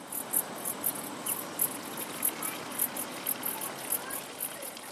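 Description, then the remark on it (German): A fountain splashes steadily in a continuous wash of trickling water beside the toilet hut of a granite mountain hut at almost 1900 metres, in a clearing in a larch forest near Piz Cengalo, while crickets chirp in quick, regular pulses over it. The scene is quiet and outdoors, with no one speaking. “Erbaut auf einer Lichtung im Lärchenwald, ein Brunnen plätschert neben dem Toilettenhäuschen.”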